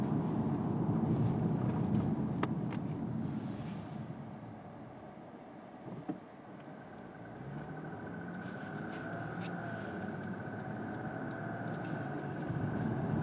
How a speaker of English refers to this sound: And I'm driving a car, so it'd be irresponsible to take.